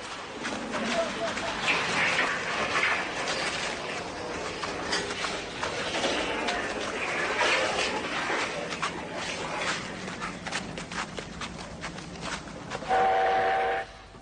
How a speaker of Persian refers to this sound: این یک لوکوموتیو بخاری است از نوع رایج در چین و با سر و صدای زیاد. در دهه 50 ساخته شده و به قول خودشان لوکوموتیوی است بنیادی.